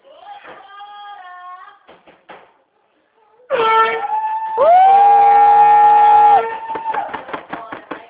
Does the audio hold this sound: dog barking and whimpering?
no